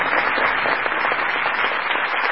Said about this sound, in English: The Lincolns and their guests arrive at Ford's in high spirits. The crowd applauds the president.